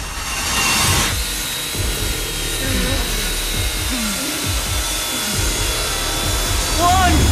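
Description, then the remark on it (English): A spinning saw blade inside a glass box in a torture room whirs with a steady, harsh grinding hiss, while low, rhythmic scraping strokes throb beneath it and a brief rising whine cuts in near the end. “Malik's looking down at the spinning saw in the box.”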